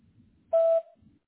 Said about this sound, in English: At the sound of the tone, please leave your name and number in a brief message, and I'll be sure to call you back as soon as possible.